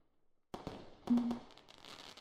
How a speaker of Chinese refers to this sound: 你往窗边看，烟花的盛放可真是美。我们两个在这里看着烟花，似乎有点寂寞呢。